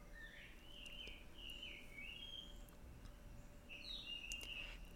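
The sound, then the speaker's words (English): A jungle bird calls outdoors in a series of bright, whistling chirps and sweeping trills, pausing briefly before another burst, over a steady low background hum. “You hear this bird out here, this jungle bird?”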